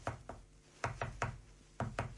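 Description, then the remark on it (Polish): Knocking on a hollow-sounding wall while pushing and knocking on walls to search for a way out, about eight dull, resonant raps landing in loose pairs, with no talking. “I tak pukałam we wszystkie, nagle puknęłam w jedną. I miała taki pusty dźwięk.”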